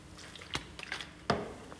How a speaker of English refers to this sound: pardon me. Sorry, let me have a mouthful of water.